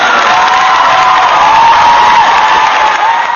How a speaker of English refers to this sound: Well, you know what we do for first-time callers. We got to play a little applause for you.